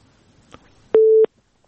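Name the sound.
telephone busy tone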